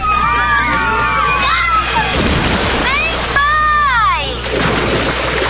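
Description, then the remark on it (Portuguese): Splashing and sloshing water at a busy water park, with excited voices and shrieks from a crowd over steady background noise, loud throughout. “Acabou de ouvir alguém criando memórias. Áureas Parque. Vem aí um mega parque aquático com piscina de ondas”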